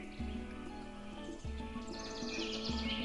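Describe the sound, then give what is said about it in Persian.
Birds chirp in a busy high twitter on a fine-weather morning, strongest toward the end, over a steady low hum broken by soft, evenly spaced thumps about every second. “چه پرنده های زیبایی، همه اونا شاد و خوشحالن.”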